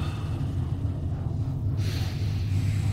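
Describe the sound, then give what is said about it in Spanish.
Slow, deep breaths drawn in and pushed out, heavy, with a soft airy rush over a low steady rumble. “Pa' afuera. Adentro. Afuera.”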